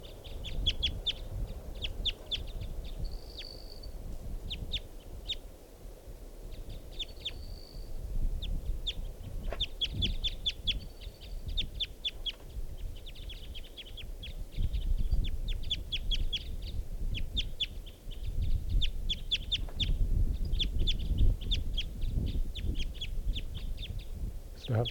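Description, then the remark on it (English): A female wild bird calls with a long series of short, sharp clucks at an uneven pace, with a few brief whistled notes, set against a steady low outdoor rumble. “Wild bird. That's the female.”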